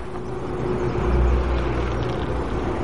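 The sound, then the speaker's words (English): A large 4x4 vehicle's engine rumbles steadily with a deep, low drone, swelling slightly louder midway as it approaches, with no voices. “Later, Eddie's waiting in his car when he looks up and sees Annie's 4x4 approaching.”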